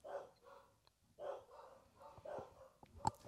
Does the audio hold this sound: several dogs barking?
yes